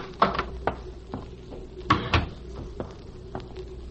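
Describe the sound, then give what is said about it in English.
A door being opened: a string of sharp clicks and wooden knocks, with a louder rattling pair midway, as if a latch and handle are worked, over a steady low hum. No one speaks. “Just open the door and go on in alone.”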